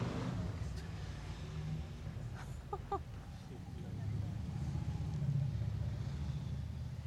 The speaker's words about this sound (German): Heute ist der erste Motorradtag wieder.